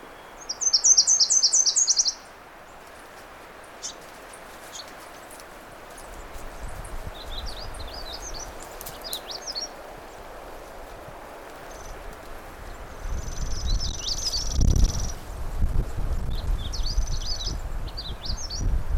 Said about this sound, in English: Actually, that's the sound of a magnolia warbler. It's a variable song, and I recorded it, I think it was yesterday. A very different song, but that's characteristic of the magnolia warbler. They're very variable.